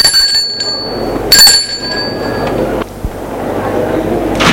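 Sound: doorbell ringing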